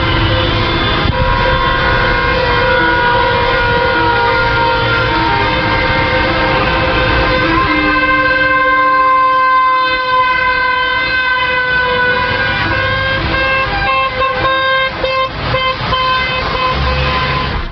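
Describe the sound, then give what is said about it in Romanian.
Loud, sustained car and truck horns blare over heavy traffic noise as traffic is blocked for over two hours in the centre of Romania's capital, in an action joined by several employers' organizations, several overlapping tones held for long stretches, then shorter broken honks toward the end. No one speaks. “Pe lângă claxoanele autovehiculelor și autoutilitarelor amintite, s-au putut auzi și cele ale altor mașini participante la trafic, șoferii acestora din urmă enervându-se peste măsură că nu pot ajunge la destinație în timp util”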